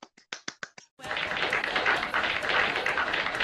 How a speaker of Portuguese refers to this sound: Palmas para ela.